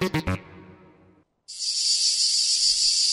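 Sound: cicada singing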